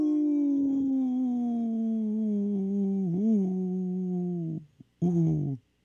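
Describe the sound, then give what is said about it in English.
A wolf's long, steady howl holds for several seconds, sliding slowly downward, then breaks off and is followed by a shorter second howl. Loud, with no talking. “Howling for Wolves, protecting wolves for future generations. Howl! Howl! Howl!”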